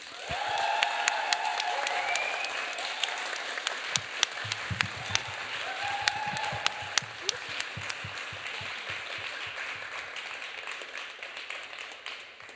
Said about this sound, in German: Oder aber ihr denkt, die dritte Starterin soll ins Finale und ihr wollt mit ihr nicht hart ins Gericht gehen, sondern sie im Finale sehen, dann macht bitte jetzt einen großen Applaus